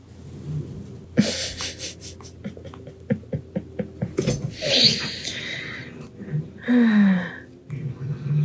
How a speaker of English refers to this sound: It sounds much worse than it is. It's like, you know, like when a kid plays with his dad and the dad's like, roar, I'm gonna get you, and the kid's screaming. That's the kind of noises that they make when they're play fighting each other.